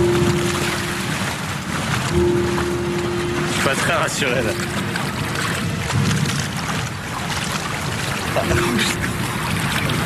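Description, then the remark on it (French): A steady, loud rush of wind and splashing water fills the scene aboard a pedal boat crossing a lake as the wind begins to rise, with a faint engine hum underneath and a man speaking briefly over it. “Il y a le vent qui commence à se lever, direction la maison.”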